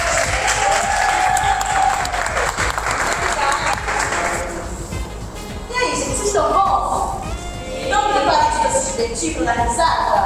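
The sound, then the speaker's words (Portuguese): An audience claps for the crew of the show Bora Que Bora Cash, in loud, dense, steady applause that fills the whole stretch, with whoops and cheering voices rising over it in the second half. “Uma salva de palmas pra galera.”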